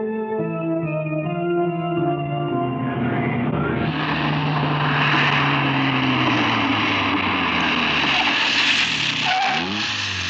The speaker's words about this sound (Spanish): A cierta distancia del doctor Kido, donde hay ya calles y construcciones urbanas, un auto se ha detenido.